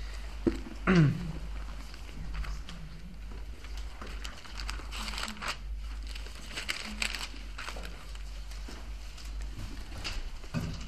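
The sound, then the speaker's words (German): An audience flips the pages of their Bibles to John chapter 3 all at once, a steady soft rustle and crinkle with scattered louder flicks, no one speaking over it. “Blättern wir vielleicht alle nach Johannes 3.”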